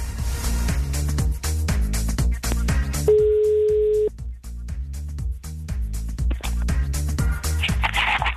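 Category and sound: signal or alarm, telephone ringing tone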